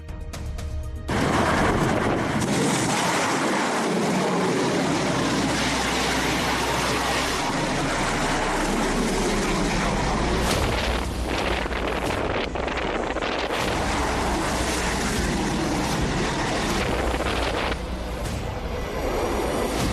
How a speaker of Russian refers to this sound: Кадры пусков ракетных катеров, кораблей, ракет «Калибр». Смотрим.